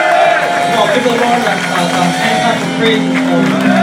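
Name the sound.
audience applauding and cheering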